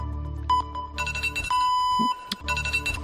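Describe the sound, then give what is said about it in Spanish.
A mobile phone alarm rings in a studio as a broadcast is starting, a loud electronic melody of bright beeping tones repeating in short bursts and sustained notes, with no one speaking. “tienes que coger el teléfono que te ha sonado cuando arrancábamos.”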